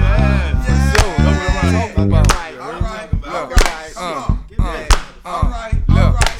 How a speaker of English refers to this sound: Nigga, give me a motherfucking beat or something, nigga. Motherfucking clap or something, yeah.